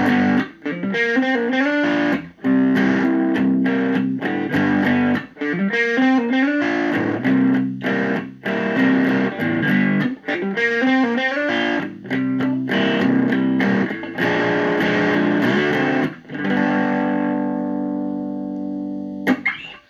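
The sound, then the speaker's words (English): An electric guitar played on its middle pickup plays a driven, slightly distorted riff of repeated chords and single notes in a steady rhythm, loud, ending on a long ringing chord that fades out. “Let's do a little bit of the middle pickup.”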